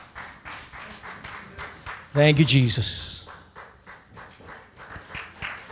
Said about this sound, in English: Would you stand right now and just clap your hands to the Lord? Thank you, Jesus.